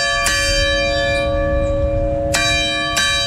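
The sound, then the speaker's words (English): A deep church bell in Uvalde, Texas tolls with a long, ringing hum, struck again about every second or two in a slow, solemn rhythm, loud with no voices; it rang 21 times, once for each victim of the Robb Elementary School shooting. “The bell rang 21 times for each of the victims of the Robb Elementary School shooting 2 years ago on Friday.”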